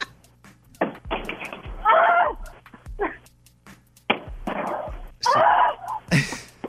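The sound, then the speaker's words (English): Repeated heavy thuds and clattering bangs come in irregular bursts, loud crashing impacts with rattling, as a television is knocked over and beaten on its backside again and again. “She knocked it over immediately, then just started beating on the backside of it.”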